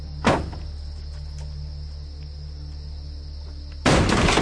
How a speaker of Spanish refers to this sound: En medio del desierto, Kaun golpea la puerta de la caravana desde dentro.